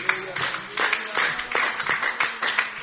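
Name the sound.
audience clapping hands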